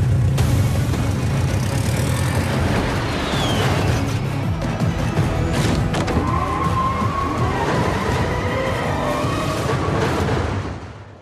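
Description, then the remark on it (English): Car engines roar loudly over a constant rushing drone, with revving, pitch swoops and brief tire squeals, as cars drive out of a plane at several thousand feet. No one speaks; the din cuts off abruptly at the end. “Because they were in a plane driving cars out at several thousand feet”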